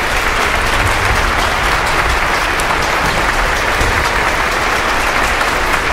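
A large audience applauds steadily, a dense, even wash of clapping that stays loud and sustained throughout, with no voices standing out.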